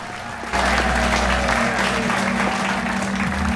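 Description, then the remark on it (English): An audience at a police gala breaks into sustained applause as a performer stands on stage, dense clapping that swells suddenly after a brief quieter moment and continues loudly throughout, with a low steady hum underneath. “In slow motion, the audience applauds as he stands on stage.”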